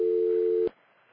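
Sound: telephone dial tone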